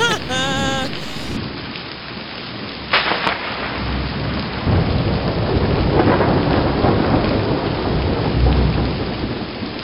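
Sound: rain storm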